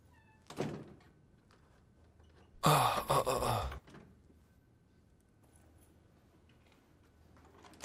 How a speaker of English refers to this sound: It's just I'm locking the door on you because I don't trust you at all.